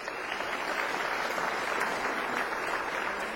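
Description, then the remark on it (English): A crowd at a school awards presentation applauds the pupils receiving awards, steadily, a dense, even patter of many hands clapping at once, sustained without pause and fairly loud, with no voices heard over it. “Give them a wee round of applause.”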